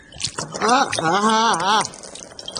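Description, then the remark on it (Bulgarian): Water is poured over a man's head, splashing and pouring down for a couple of seconds, with his drawn-out cry rising over it. Fairly loud. “излей му вода на главата.”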